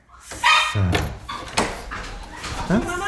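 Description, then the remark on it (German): Dogs at a home squeak and whimper as visitors arrive, a run of high, wavering whines that rise and fall in pitch, coming in excited bursts over about three seconds. “Mama, wie quietschen wir Hunde, das ist da sind sie.”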